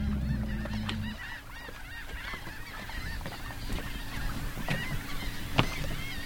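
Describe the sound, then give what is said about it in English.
A dense shorebird colony at a rookery on Green Island in the Laguna Madre calls nonstop, a noisy overlapping chorus of squawks and cries, with a low engine rumble fading out in the first second and a few sharp louder calls near the end. “It's a rookery jam-packed with shorebirds.”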